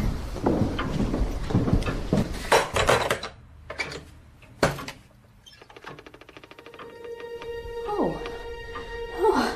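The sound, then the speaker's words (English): A back door is handled and opened at night: scratchy knocks and rattles of a latch, then a long, squeaky creak as the hinges swing, with no one talking. “I'll have to open the back door and let in the moonlight.”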